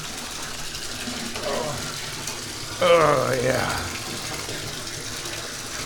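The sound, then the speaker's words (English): Hot water pours steadily from a bathtub tap, a constant rushing hiss, while a voice speaks briefly over it. “This is what I need for my back. Some nice hot water.”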